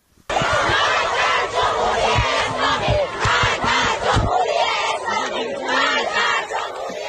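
A crowd of female students at Alzahra University in Tehran, Iran, chants slogans against the leader of the Islamic Republic, loudly and steadily, their voices rising together in forceful rhythmic slogans that fill the whole clip without pause.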